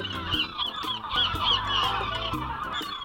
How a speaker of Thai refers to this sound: วันนี้เป็นเรื่องของนกนกที่เราเจอในเมืองไทยแต่ไม่ใช่นกของไทยค่ะเป็นนกที่เดินทางไกลมาจากต่างบ้านต่างเมืองจากต่างประเทศมากันเป็นฝูงใหญ่แล้วก็แวะมาพักเมืองไทยนั่นคือนกอพยพ